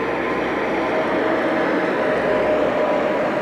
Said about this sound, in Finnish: Betonimylly ajoi ohi ja nyt tuolta tulee tommonen iso rekka.